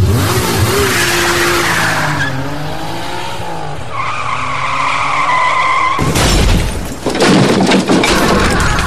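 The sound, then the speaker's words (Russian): A car engine revs hard and climbs in pitch while tires let out a long, shrill squeal, then a sudden harsh burst of noise takes over near the end. It is loud, with no voices. “Сажусь в тачку и по газам.”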